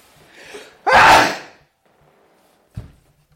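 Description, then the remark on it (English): A loud, forceful sneeze bursts out after a short inhaled build-up, followed by a brief quiet and a faint thump or shuffle. “That's an aggressive sneeze.”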